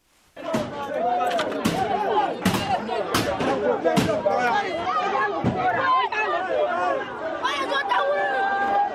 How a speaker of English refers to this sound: People are wailing and crying as others run for cover as gunshots are heard in Poloyafon, a neighborhood in Tamale, northern Ghana. The shooting started after a family refused to bring their mother for confession after she was accused of witchcraft.